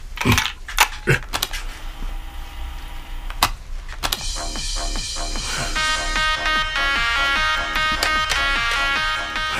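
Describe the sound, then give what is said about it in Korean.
Several sharp plastic clicks and clunks as a cassette tape recorder is handled, then a steady, rhythmic tinny music-like playback of what looks like a pirated tape starts and continues. No one speaks. “뭔 해적판 테이프 같은데.”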